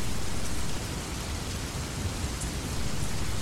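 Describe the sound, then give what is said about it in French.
Steady rain pours down in a dense, even hiss, with low rumbling texture underneath and no voices, holding a constant loudness throughout with only a slight dip partway. “Dans mon pays, il tombe une pluie permanente. Jamais dévastatrice, mais insistante.”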